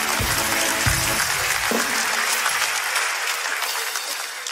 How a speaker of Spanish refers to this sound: Un aplauso para Capitán que lo dio todo por la muy comedia